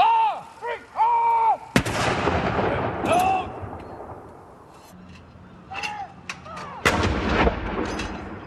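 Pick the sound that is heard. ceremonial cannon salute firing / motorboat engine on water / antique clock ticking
ceremonial cannon salute firing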